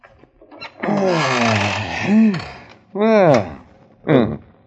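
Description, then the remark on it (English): A chair creaks in three bursts as someone sits in it, trying it out: a long, wavering groan followed by two shorter rising-and-falling squeaks, with a couple of faint clicks in between. “What's that? Oh, just the chair.”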